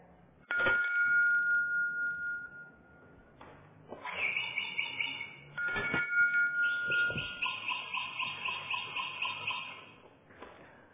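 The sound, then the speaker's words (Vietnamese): A hand bell is shaken and rung several times at irregular intervals, each strike leaving bright, sustained metallic tones that ring out fairly loud, with no talking. “Vậy thì hồi mà tôi không có lắc chuông chim không có kêu là các vị gọi là không nghe phải không?”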